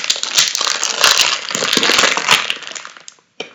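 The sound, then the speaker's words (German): A plastic bag of sour dragon candies is opened, crinkling and crackling continuously for about three seconds before stopping, with one brief rustle after a short pause. “Mach doch mal die Tüte auf.”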